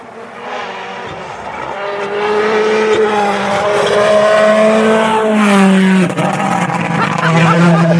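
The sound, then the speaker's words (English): A rally car engine roars, revving higher as it approaches, then its pitch drops sharply as it races past and pulls away, loud and throaty throughout. “Another car coming.”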